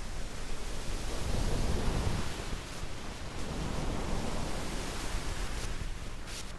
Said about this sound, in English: when you slow down some of these sounds that have essentially a lot of white noise, you get that ocean sound